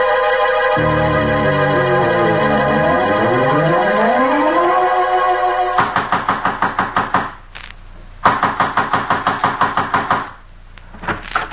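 Rapid, heavy pounding on a door in two loud bursts separated by a short pause, following several seconds of sustained, swelling musical tones.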